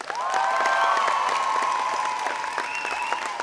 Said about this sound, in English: Also, could ask you guys to give a big round of applause for